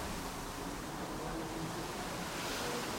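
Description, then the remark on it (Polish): A steady, airy rush of wind through trees, a broad hissing rustle that swells slightly toward the end, with no voices over it. “ale szumiał pięknie.”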